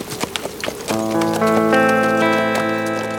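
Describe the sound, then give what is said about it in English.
A horse's hooves clip-clop in a quick, steady rhythm as a rider rides out of town, before a sustained, swelling musical chord rises and carries on over the fading hoofbeats. “Frank lifted a hand and rode out of town.”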